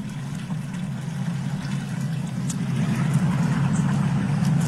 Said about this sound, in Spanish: Todo eso que se escucha de fondo es el agua que se está tirando en Zapopan hace ya 2 días. Una mega fuga de agua por la calle 2 entre la calle B y la calle C de la colonia ecológica Seattle de Zapopan.